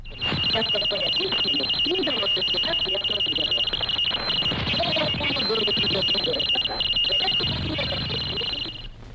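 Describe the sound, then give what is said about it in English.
Radio teletype interference from a high-speed mechanical sender transmitting a series of coded pulses: a shrill, steady pair of high-pitched tones chattering on without pause while a muffled voice talks underneath, loud throughout. “This is a high-speed mechanical sender transmitting a series of coded pulses.”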